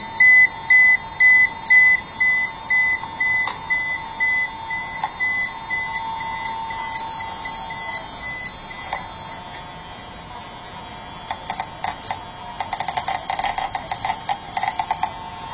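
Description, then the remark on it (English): A radiation detector's alarm beeps in a steady, rapid run of high electronic tones, then fades into a quieter stretch of dense, fast crackling clicks, fairly loud, with no voices; the detector is measuring radioactive mineral samples, a green torbernite and a smaller brownish betafite. “And there's the alarm.”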